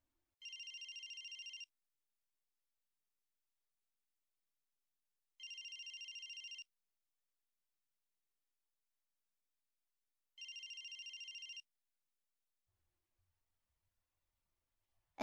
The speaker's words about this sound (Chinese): 等一下，小新，我接个电话。